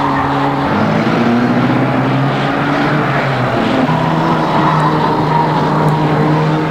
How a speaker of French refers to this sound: Il fonce dans le sable. Genevois le voit. Tout d'un coup, Cliff a freiné. Il tourne en fonçant sur Genevois. Les deux voitures se font face.